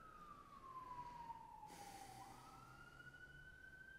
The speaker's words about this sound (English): There's an ambulance. Somebody's got a challenge right now.